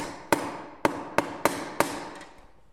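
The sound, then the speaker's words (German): A hammer taps a small, slightly sticking screw into a marked hole with five sharp, evenly spaced metallic strikes and a faint sixth, over a steady background hum with no talking. “Eine kleine Schraube soll in das Loch. Sie hakt etwas, darum hilft Franke kurzerhand nach.”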